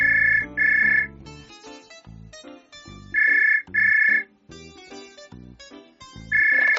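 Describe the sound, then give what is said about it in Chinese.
A telephone rings in loud, bright double bursts at a drink shop in the South District of Tainan, as a man calls to order 56 drinks; each pair repeats every few seconds, with light instrumental music playing steadily underneath. “台南市南区一家饮料店，某一天接到一名男子来电，狂订了56杯的饮料。”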